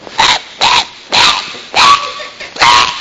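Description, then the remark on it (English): A person imitates a dog that has had surgery so it can't bark, giving five hoarse, breathy bark-like huffs in a steady rhythm, fairly loud, with no other talking. “There's like a surgery you can get for your dog where it can't bark anymore?”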